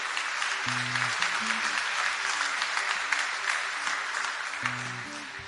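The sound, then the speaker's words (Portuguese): An audience at a church service applauds the Lord steadily for several seconds, a dense, even wash of clapping, while a few low sustained keyboard notes sound beneath it. “Quer aplaudir? Aplauda o Senhor que é santo.”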